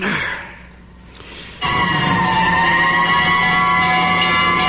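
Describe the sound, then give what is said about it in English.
A breathy intake, then Ernie of Sesame Street bursts into a loud, sustained wail imitating a fire engine siren, counting fire engines instead of sheep, holding a steady, slightly wavering pitch for several seconds. “So I decided to count fire engines, Bert.”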